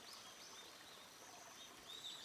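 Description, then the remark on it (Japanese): Small birds sing in brief, high whistling phrases over the steady wash of a flowing river beside a lush green forest, with warm sunlight falling on the water. The calls are light, with a brighter burst of song near the end. “青々と茂った森のそばに、美しい川のせせらぎ、暖かい陽光が水面に降り注いで、小鳥が歌を奏でています。”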